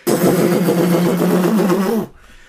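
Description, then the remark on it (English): A loud helicopter roar, a steady droning rumble with a throbbing low hum and broad hiss on top, running for about two seconds before cutting off abruptly into near silence. “Here's a helicopter.”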